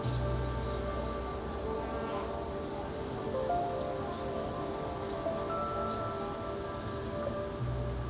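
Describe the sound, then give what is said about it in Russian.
A steady, low rush of wind blowing outside on the street under a window, continuous and fairly soft, with a faint tonal hum running underneath and no voices. “А здесь под окном, с этой стороны, на улице шумит ветер.”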